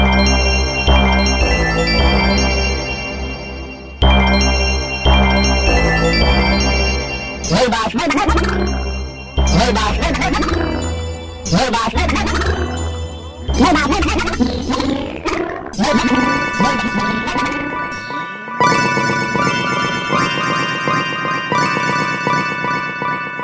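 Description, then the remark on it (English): A loud, dense electronic composition made with a music generator app layers ringtone-style melodies with chiming bell tones, shifting through several sections, with swooping, warbling tones in the middle and bright ringing chimes toward the end. “there seemed to me to be three different ringtones”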